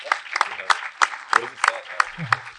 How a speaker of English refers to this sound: thank you. Give her a big round of applause for helping out.